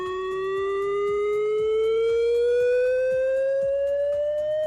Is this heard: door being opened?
no